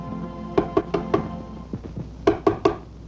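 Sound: knocking on a door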